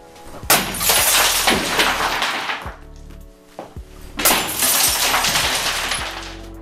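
Drinking glasses are smashed during destruction therapy, shattering in two loud bursts of breaking glass, each followed by a bright, tinkling spill of shards. There is a brief lull with a few clinks between them, and no talking.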